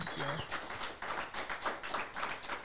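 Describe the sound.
A short round of applause: steady, fairly brisk clapping from a few people, with a brief voiced sound at the start, then the clapping continuing evenly at moderate loudness.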